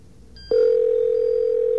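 A cell phone rings with a loud, steady electronic tone at one mid pitch, held without a break after a faint brief chirp at the start. No one speaks.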